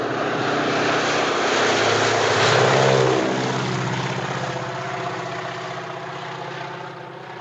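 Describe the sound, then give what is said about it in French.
A propeller airplane roars overhead, its engine drone swelling to a peak within a few seconds, then dropping in pitch as it passes and fades away, with no voices. “La scène la plus connue et la plus longue est celle de l'avion, où l'on peut croire arriver à la fin du film, mais la moitié du film est encore à venir.”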